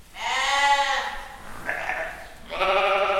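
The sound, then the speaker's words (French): Ewes bleat loudly, two long wavering calls separated by a brief pause filled with softer bleating, with no talking over them. The ewes are on a coastal farm by Mont-Saint-Michel, France. “C'est des brebis qui ont des super conditions de vie, vu Mont-Saint-Michel tous les jours et sur des grandes surfaces.”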